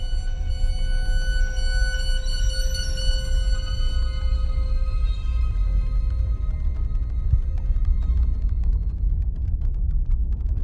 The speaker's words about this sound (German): Plötzlich das Dröhnen von schweren Motoren.